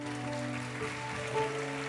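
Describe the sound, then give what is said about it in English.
Steady, crackling applause from a crowd for the praise and worship team and the band runs throughout, mixed with sustained musical tones from instruments holding notes underneath. The clapping stays even in level, without distinct individual claps standing out. “Well, let's give the praise and worship team and the band a good round of applause.”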